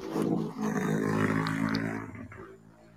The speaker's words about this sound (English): What was that? Someone's stomach? No, some stupid motorbike going next door or going across the street.